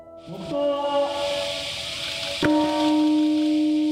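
peace bell ringing

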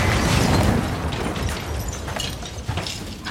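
ATM explosion

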